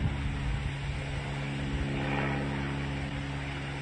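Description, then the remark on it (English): A steady, droning engine of a plane that is not moving hums continuously with strong low tonal bands, loud, holding an even level with a slight swell midway and no voices. “Crazy thing is you can hear the engine.”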